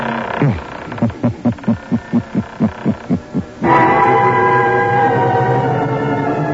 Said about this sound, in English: Where are we going? Through the creaking door, of course.